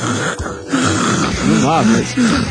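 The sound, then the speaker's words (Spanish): A voice imitates snoring: a few rough, drawn-out snorting breaths with a wavering, nasal tone, fairly loud, one after another over a couple of seconds. “ronca inmediatamente y está dormido, no exagero.”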